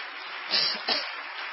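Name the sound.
audience clapping hands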